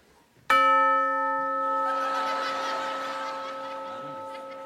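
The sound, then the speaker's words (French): A single bright bell strike, part of a nightclub-style rhythm played by a musician, rings out suddenly and sustains with clear, shimmering overtones, slowly fading over several seconds with no voices. “Voilà, vire la cloche et garde que ça, voilà.”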